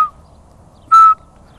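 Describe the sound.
A single short, clear whistled note, loud, imitating the piping call of a Eurasian pygmy owl, with quiet background around it.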